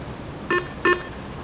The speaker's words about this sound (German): Telefon? Ja.